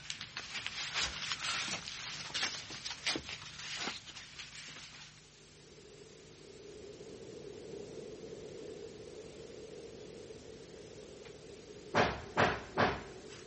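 knocking on a door

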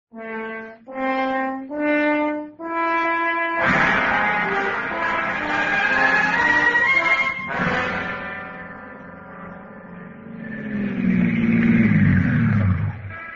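car driving up

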